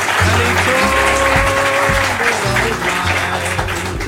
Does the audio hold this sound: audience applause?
yes